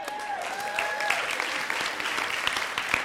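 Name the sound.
audience applause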